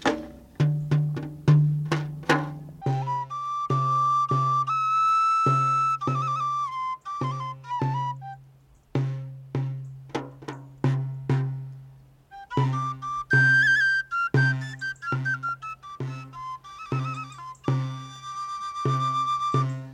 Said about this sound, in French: Alors j'utilise une forme assez liée à la musique médiévale, c'est-à-dire un petit tambourin et un galoubet de grande taille.